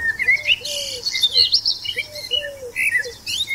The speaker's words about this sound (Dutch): Als de muziek verdwijnt en u de vogeltjes weer hoort fluiten, kunt u de podcast op pauze drukken en uw route vervolgen tot aan de volgende stop.